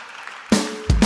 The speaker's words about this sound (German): Dass wir beispielsweise keine Koalition mit den Grünen haben wollen. Meistens gibt es da Applaus dafür.